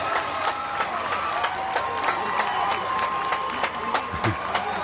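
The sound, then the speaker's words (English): A large outdoor crowd at the Newport Folk Festival claps steadily and densely throughout for an encore by a band, with scattered whistles and cheering voices rising over the sustained applause. “If it's up to the crowd, we are, right? The crowd very here much into.”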